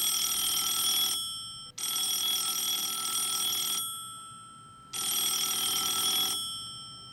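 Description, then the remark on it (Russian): A telephone rings alone in the morning in three long bursts, each a bright, shrill metallic tone that fades out slowly before the next ring starts. No one speaks. “На следующее утро малыша разбудил телефонный звонок.”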